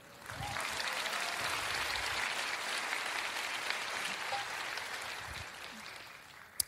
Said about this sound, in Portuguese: No primeiro culto, essa hora o pessoal aplaudiu para eu poder respirar.